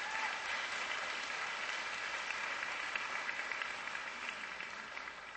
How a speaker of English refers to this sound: Give the Lord a clap offering for that one.